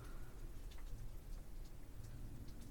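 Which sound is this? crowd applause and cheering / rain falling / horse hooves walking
rain falling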